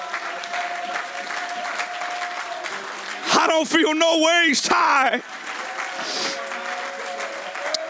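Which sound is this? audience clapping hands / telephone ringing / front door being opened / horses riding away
audience clapping hands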